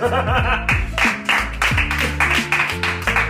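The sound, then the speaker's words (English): An audience at a stand-up comedy set claps and cheers together, with loud, steady applause swelling in rhythmic bursts over a bed of mixed voices for a few seconds. “Clap for options.”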